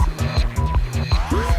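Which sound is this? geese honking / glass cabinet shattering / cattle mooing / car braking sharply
car braking sharply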